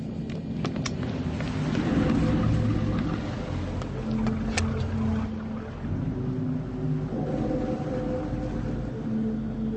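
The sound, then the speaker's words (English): The engines of the Canadian fishing vessel Lizette (CV-233) drone steadily throughout, a deep continuous rumble with shifting low tones and faint clanks over it, fairly loud, with no voices. “Cut the engines and meet me up on deck.”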